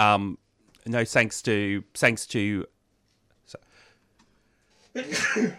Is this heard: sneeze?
yes